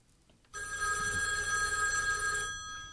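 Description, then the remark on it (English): A telephone ring sound effect rings in one continuous burst of about two seconds, a loud, steady, high-pitched bell tone, then cuts off and leaves a short quiet tail with no talking. “Tyler, play the phone ring.”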